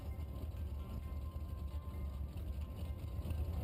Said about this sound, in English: Getting ready for the start of the Eurasia Cup Invitational Sports Car Race. 48 cars to start the 45-minute race. Rolling out of the airport pre-grid area, lots of spectators show up early.